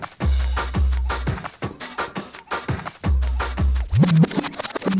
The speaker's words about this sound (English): Now we have to come with a rewind because it's gonna be the dub plates